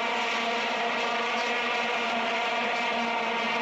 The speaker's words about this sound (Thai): เสียงโทนต่ำของบูเซล่าอุปกรณ์เชียร์กีฬาที่ใช้ระหว่างการแข่งขันฟุตบอลโลกที่แอฟริกาใต้เมื่อปี2010กลายเป็นฝันร้ายของหลายคนในแบบที่เรียกได้ว่าลืมกันไม่ลงเลยทีเดียวครับ